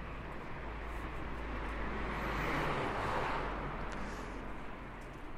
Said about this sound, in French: Les voitures semblent plus pressées.